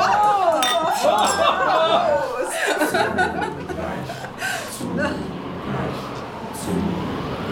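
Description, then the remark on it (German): Champagne glasses clink together in a toast, with bright ringing chimes up front, then fade into a busy background of chatter and chuckling voices. “Mit der werde ich noch heute im Champagner baden. Prost!”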